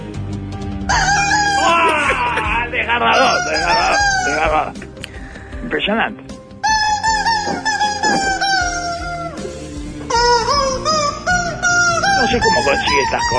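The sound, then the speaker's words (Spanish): A chicken clucks and crows loudly and almost without pause, its harsh, drawn-out calls rising and falling in pitch over about thirteen seconds. “Un pollo triste como la pucha.”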